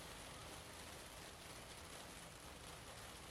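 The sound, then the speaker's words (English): Steady rain falls throughout, a dense, even hiss of countless drops with no pauses or voices, fairly soft and constant from start to finish. “So it's raining again.”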